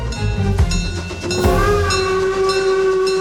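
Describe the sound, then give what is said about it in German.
The Lößnitzgrundbahn, a historic narrow-gauge steam train linking Moritzburg and Radebeul near Moritzburg Castle, Germany, rumbles along with a steady low mechanical roar, sharp clanks and bursts of hiss, while a high sustained whistle tone rises out of the noise and holds. “In der Nähe von Schloss Moritzburg dampft schon die Lößnitz-Grundbahn.”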